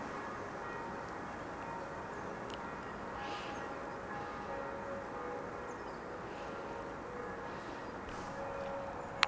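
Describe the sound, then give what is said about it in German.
Bells of a nearby church ringing in the morning, their overlapping tones blending into a steady, sustained hum against a quiet outdoor background, with no voices present. “Und jetzt höre ich bereits das Glockengeläute einer Kirche, hier ganz in der Nähe.”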